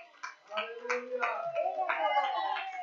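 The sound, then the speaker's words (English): A church audience breaks into steady clapping in praise of the Lord, with raised voices calling out over it, the applause and cheers running together at moderate loudness for a few seconds. “Come on, don't you feel like giving the Lord a clap and a praise?”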